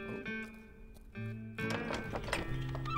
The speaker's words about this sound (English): Plenty of room for the horses.